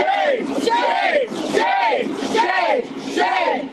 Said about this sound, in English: there are at least a dozen Alameda County Sheriff's deputies, some in riot gear, facing off against supporters of Moms for Housing right now. They've been chanting and yelling at officers.